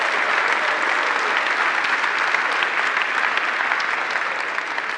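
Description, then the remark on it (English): Steady, dense applause from an audience for a couple celebrating their 59th wedding anniversary, many hands clapping in a continuous crackling wash at an even loudness that tapers only slightly toward the end. “We applaud you.”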